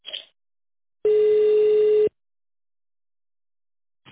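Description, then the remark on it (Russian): A single telephone ringback tone as a call is transferred to a secretary: one steady, loud, low-pitched buzz lasting about a second, then silence, with brief snippets of sound at the very start and end. “Звонок переводится на секретаря.”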